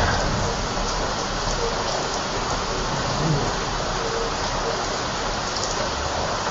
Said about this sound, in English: Even the sort of jungly plants, they sort of look right when it's raining. You can almost think in their element, so to speak.